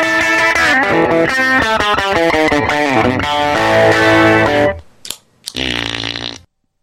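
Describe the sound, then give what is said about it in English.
A guitar played through a prototype fart effects pedal: a run of guitar notes turned into loud, buzzy fart noises, each pitched blat sliding and sputtering in quick succession, then a brief pause before a final drawn-out farting tone. “We're really happy to have produced a handful of prototypes that work and turn your guitar noises into fart noises.”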